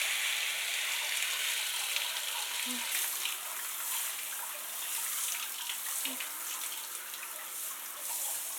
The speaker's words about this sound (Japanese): このままお湯で洗い流していきますから、目を開けないようにしてくださいね。